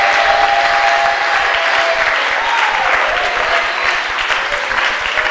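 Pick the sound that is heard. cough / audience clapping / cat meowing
audience clapping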